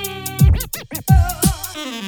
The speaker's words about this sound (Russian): скрэч на фоне, вот.